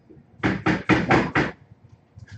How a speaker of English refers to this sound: Yeah, I'm like, just, I'll go back with you and kind of like, let's knock. Yeah. And so I would go up to the door and.